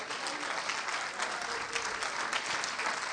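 audience clapping hands

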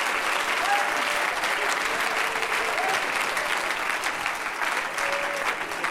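audience clapping hands

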